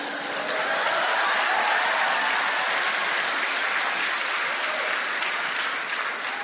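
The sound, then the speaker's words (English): An audience claps steadily for several seconds, a dense, even wash of many hands with no pauses and no voices rising above it. “You guys clapping is kind of like saying, let's pray.”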